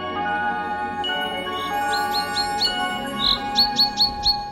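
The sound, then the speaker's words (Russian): Birds singing in trees, with a series of short, bright chirps repeating in a quick rhythm over a steady, low background hum; the calls grow more frequent and distinct toward the end. “На деревьях распевают песни птицы.”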